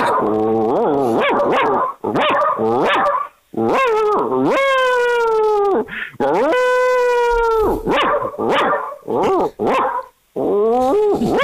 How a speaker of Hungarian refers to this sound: Ültesd le, jó? Mondd neki, hogy üljön le, és ülve ugasson. Tehát szólj rá, hogy üljön le, és akkor utána, jó? Ülsz, Bundi, ülsz.